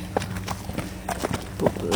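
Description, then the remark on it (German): Horse hooves clip-clop in an uneven rhythm, a series of sharp knocks over a low background rumble, with no one speaking. “Jetzt kommt gerade so eines von den Pferden. Hört sie?”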